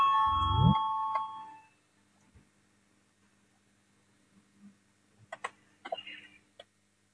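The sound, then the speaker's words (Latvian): A loud parliamentary voting bell chime rings out at the start, calling a vote, and decays over about a second, leaving quiet with scattered faint clicks and shuffling noises. “Lūdzu, zvanu balsosim par 9.”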